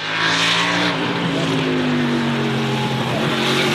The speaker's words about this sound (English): Let's start with the cars. Here's what a NASCAR sounds like.